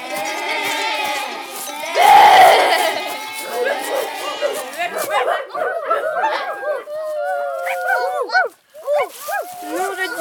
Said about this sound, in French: Les chiens aboient.